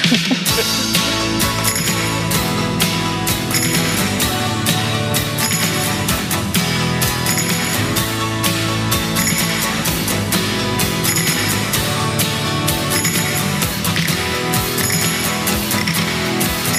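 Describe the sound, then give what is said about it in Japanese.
An upbeat pop love song plays from a recording: a loud, dense instrumental passage with a steady driving beat and bright, regular cymbal hits throughout, with no singing or talking. “ということで聞いていただきます。”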